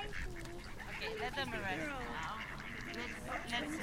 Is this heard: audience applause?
no